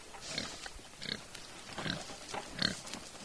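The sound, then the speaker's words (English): Several Kunekune pigs, a New Zealand grazing breed, grunt and snuffle at Deer Tree Farm in a loose, irregular rhythm, with short rough bursts of sound every half second or so and no voices. “Our main breed is Cooney Cooney, and that's a New Zealand grazing hog.”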